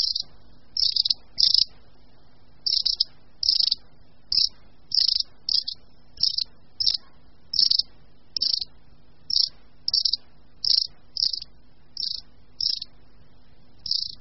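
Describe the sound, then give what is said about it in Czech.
Long-tailed tit flock contact calls: a steady series of short, thin, high-pitched notes repeated every half second or so, clear against a quiet background. “Ve stichlé přírodě je v tomto období nejčastěji prozradí právě jejich kontaktní hlasové projevy.”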